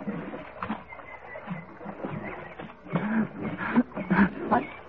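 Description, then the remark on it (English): Water splashes and churns as a boy dives into a river to cut a rope and pull out a dog, a muffled, continuous sloshing that swells into heavier splashing bursts in the last couple of seconds. “I'll dive down and cut the rope.”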